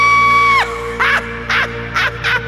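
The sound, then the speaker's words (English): A maniacal scream, loud: a high, strained shriek that swoops downward, followed by four harsh, raspy screeches in a steady rhythm, almost crow-like. “I was locked in a cage where my heart filled with rage, and I developed this maniacal scream.”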